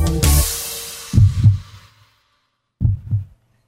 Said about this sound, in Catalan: aquests batecs són de la cançó …d'…